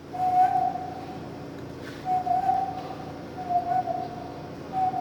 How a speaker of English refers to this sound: an orangutan at the National Zoo in Washington, D.C., has an unusual skill. She can whistle.